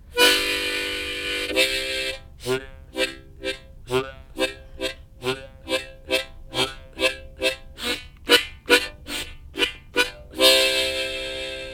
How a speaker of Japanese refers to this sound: これはビネターって言いまして、バスハーモニカとコードハーモニカが一緒になっております。これバスです。